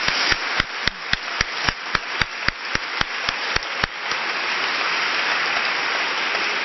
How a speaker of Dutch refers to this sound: En allereerst wil ik eigenlijk, voordat ik nog wat laatste mededelingen ga doen, een ontzettend groot applaus en dank uitspreken